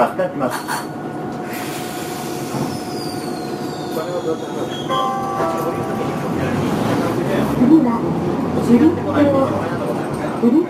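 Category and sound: vehicle, tram running on rails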